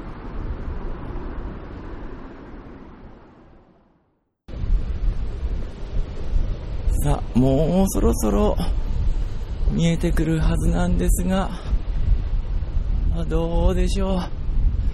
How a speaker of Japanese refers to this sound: 今日は風が強いです。この収録している音声に風の音が入ってしまっていたらすみません。ゴーゴーと私の耳元を風が吹き抜けていきます。